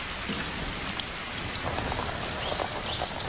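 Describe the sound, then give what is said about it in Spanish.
Shower water runs in a steady, dense hiss with a pattering, rain-like texture while a person eats lettuce in the shower, unbroken for the whole stretch and with no voices. “Está comiendo una lechuga mientras se ducha.”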